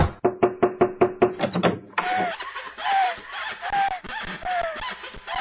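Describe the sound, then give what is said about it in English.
A quick, steady run of about eight sharp, loud knocks on a door, followed by a voice talking and snickering once the knocking stops. “Damn, wrong door.”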